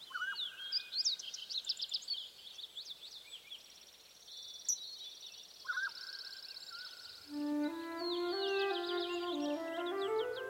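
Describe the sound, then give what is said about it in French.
Several birds chirp and trill in quick, high bursts, with a clear whistled note in between; midway a lower, sustained warbling call joins in and carries on steadily to the end. “Les merveilleux chants des oiseaux, les émotions qu'ils véhiculent à travers l'espace, le désir, la tendresse, la faim, la peur, la joie, cette présence aux autres qui voyage à travers les airs.”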